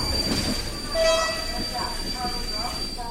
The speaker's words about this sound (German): Scheppernd schleppt sich der Zug der rumänischen Eisenbahn durch die Dunkelheit.